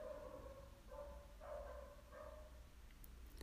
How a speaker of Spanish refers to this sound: Escuchas al perro ladrando, ¿verdad? No sé si puedes escuchar, hay un perro en la calle ladrando.